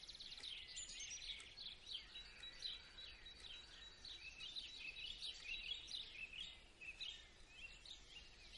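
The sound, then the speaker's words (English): Many birds chirping and singing together in a continuous, overlapping chorus, bright high-pitched tweets and trills at a steady moderate level, with no voices. “I decided to wake up before the phone had the usual dialogue with me, and started my day writing about this moment, followed by the sound of the birds having a peaceful discussion.”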